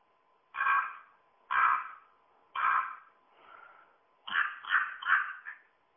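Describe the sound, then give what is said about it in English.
A common raven gives harsh, throaty croaks: three evenly spaced calls, a fainter fourth, then a quick run of four more. No voices. “And here is the raven.”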